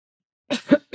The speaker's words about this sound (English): I don't know why I'm coughing, y'all. I don't have the sickness.